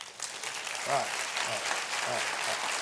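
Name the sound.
audience clapping hands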